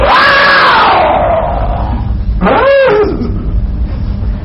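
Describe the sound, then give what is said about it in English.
A voice imitates a lion's roar: a loud, drawn-out growl that slides downward, followed by a shorter second roar, over a steady background murmur. “Now he roars like a lion. He wants to frighten you.”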